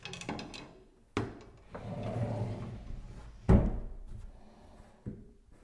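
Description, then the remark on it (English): One of two sliding doors, covering shelves with towels and toilet paper and a cupboard, rumbles open and shut several times, with low rolling scrapes between sharp knocks as the panels hit their stops; no one speaks. “On the right side there are shelves with some towels on them, toilet paper, extra toilet paper, and yeah, two sliding doors. So one covers the shelves and the other opens the cupboard.”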